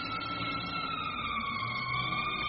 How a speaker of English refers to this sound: Well, I'll be a bow-legged bullfrog. That was a fire truck. They sure make a lot of noise as they go down the street. I guess they have to make lots of noise so the cars and people can get out of their way.